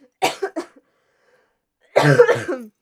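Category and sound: human body sound, coughing fit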